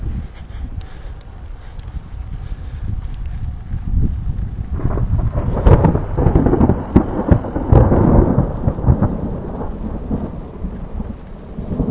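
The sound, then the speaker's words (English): Deep thunder rolls and rumbles during a thunderstorm with lightning, heard while cycling in a long-distance bike race, swelling louder midway with heavy low booms, while wind buffets the microphone and rain hisses faintly underneath. “It can get really hot out here, but we lucked out with a couple of thunder showers and cloud cover.”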